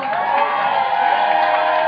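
A sustained, loud wash of crowd cheering and applause with whoops rising above the dense roar, holding steady for about two seconds with no speech.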